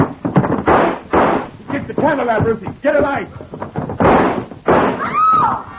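Several loud, sharp gunshots crack out at irregular intervals in the dark, mixed with shouting and a high, wavering scream from a woman who is hit.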